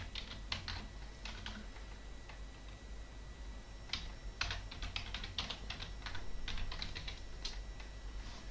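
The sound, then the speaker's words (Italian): Bursts of quick keyboard typing, clicking in irregular clusters with short pauses between them, fairly clear over a low background hum, with no one speaking, as a project's web address is typed into a chat. “Vabbè, metto magari subito, giusto così per fissare le idee, nella chat l'indirizzo del progetto.”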